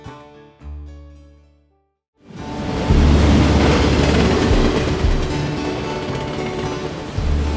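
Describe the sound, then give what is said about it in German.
A short musical snippet cuts out, then a loud train takes over, heard through a half-open window, its wheels squealing loudly and rumbling steadily as it moves slowly over rail switches, then faster under the Donnersberger Brücke, for several seconds with no talking. “Das Fenster ist halb offen, die Räder quietschen laut, während der Zug langsam über die Weichen fährt, dann schneller unter der Donnersberger Brücke durch.”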